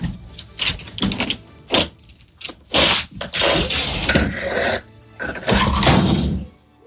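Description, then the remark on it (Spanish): Two alligators bang against the door on the porch of a house in Florida: heavy, irregular banging and rattling, sharp thumps in uneven bursts, some stretching into longer clattering stretches, with no voices heard. “En el porche de una casa de Florida, dos inesperados visitantes trataban de entrar a golpes.”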